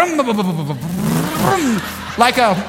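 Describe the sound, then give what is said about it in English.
A voice imitates an engine struggling to start, as if trying to jumpstart it, with sputtering, rising and falling vocal revs and a couple of strained bursts, fairly loud. “like an engine, you know, that just... trying to jumpstart.”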